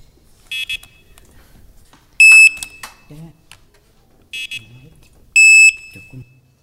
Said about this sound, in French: D'après vous, c'est un jeu vidéo, un fauteuil roulant, un code pour ouvrir la porte? C'était bien le fauteuil roulant électrique.